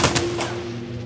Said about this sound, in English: Thunderous gunfire is heard miles away. The stricken Ford begins to roll away towards the side of the road. The fusillade of gunfire follows it.